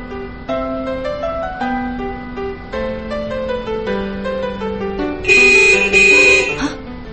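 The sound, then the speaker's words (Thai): A car horn gives a loud, sustained honk of about a second near the end, sounded at a dog that seemed about to cross the road, cutting sharply above a steady stretch of melodic, tonal background sound. “บีบแตรให้หมาเสียกำลังใจค่ะเห็นมันตั้งท่าจะข้ามถนน”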